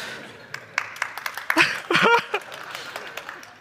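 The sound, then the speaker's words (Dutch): Audience members at an entrepreneurs' event clapping loudly on cue: scattered, irregular handclaps, sharp and moderately loud, with a brief burst of voices or cheering rising in the middle before the clapping thins out. “Ik heb een paar mensen gevraagd om hard te klappen als ik het zeg.”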